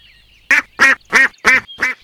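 A duck in a pond on a farm quacks five times in a quick, even series, each call loud and nasal, with a faint background hum and no talking.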